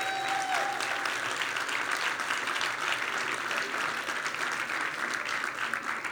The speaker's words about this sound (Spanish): Iglesia, ¿están disfrutando, sí o no? Vamos a darle un aplauso a Dios.